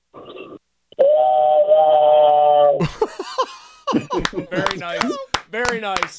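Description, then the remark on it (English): A voice does a rendition of the human train whistle, one long, steady, high-pitched wail held for about two seconds, followed by bursts of laughter and excited voices. “A listener texted it and said, can … fire up Pittsburgh for Paul Skeens tonight by doing his rendition of the human train whistle?”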